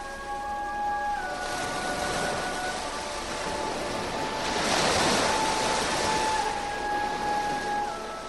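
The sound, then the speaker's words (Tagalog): Surging water waves rush steadily, building to a louder swell midway before easing back, with faint sustained musical tones droning underneath and no voices. “Unti-unti nang humihiwalay ang tubig.”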